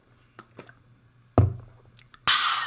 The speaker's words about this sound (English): All right. Let me take a sip of this coffee. Hold on.